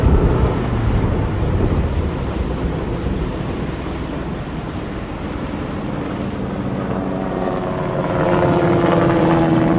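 A French air force helicopter flies very low overhead, heading south about 30 km from the Spanish border, its dense rotor chop and engine drone loud, easing slightly mid-pass before swelling again, with no one speaking.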